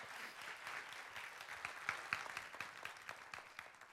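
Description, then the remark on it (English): An audience applauds steadily to praise the Lord, many hands clapping together in a dense, continuous wash of claps that stays fairly loud throughout, with a few sharper individual claps standing out. “You can give the Lord a hand clap to praise.”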